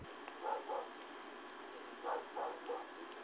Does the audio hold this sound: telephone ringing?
no